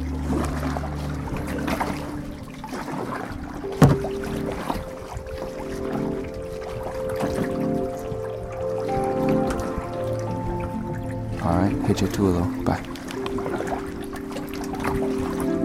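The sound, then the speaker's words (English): Small waves lap and drip gently against a dock, a soft continuous watery patter with occasional louder splashes, over a low steady hum with no one talking. “Now we're here on the dock listening to the water ripple its little waves.”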